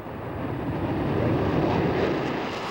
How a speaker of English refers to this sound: Lifting into the skies with its characteristic elegance and the distinctive roar of the engines, there is no other aircraft like this.